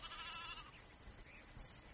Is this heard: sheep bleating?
yes